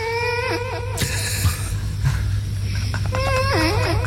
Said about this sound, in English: First, a sleeping cat whose owners have put a reverb-heavy karaoke microphone in front of its mouth as it gently sleeps on a pillow. And the sound is amazing. It sounds...